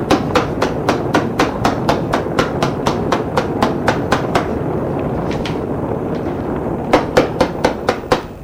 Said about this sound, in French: On frappe, on tape, on crie.